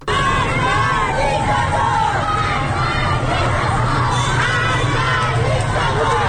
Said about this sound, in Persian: در بلوار فردوس تهران در منطقه غرب تهران هم در ویدیوهای منتشر شده آتش دیده میشه و معترضان شعارهایی رو سر میدن. صداشو بشنویم.